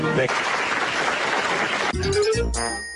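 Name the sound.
applause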